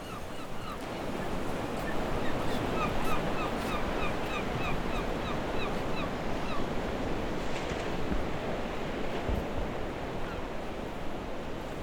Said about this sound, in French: Quand ça charrue par chez toi, les mouettes viennent te voir. Et là, c'est nous qui sommes venus voir les mouettes. C'est ça. Tu les entends?